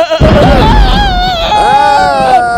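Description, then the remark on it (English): Goats in a trailer full of goats bleat loudly, a couple of long, wavering, nasal cries running together over a low rumble of background noise. “Okay, once upon a time, it was raining in a dark cave and there was a trailer full of goats.”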